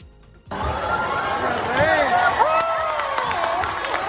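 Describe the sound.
A crowd cheers and applauds King Felipe and Queen Letizia arriving at Plaza Albert Einstein in Granada for the 2023 Armed Forces Day event: a dense wash of clapping with rising and falling shouts and whistling voices, starting abruptly and staying loud throughout.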